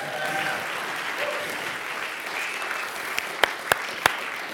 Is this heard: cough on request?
no